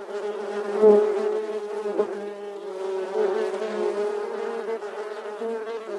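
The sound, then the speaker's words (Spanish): A dense swarm of bees buzzes continuously, a steady droning hum with slight swells in loudness, no voices present. The bees are settling on a person's hand, following their queen. “Todas las abejas comienzan a posarse en tu mano, siguiendo a su majestuosa reina.”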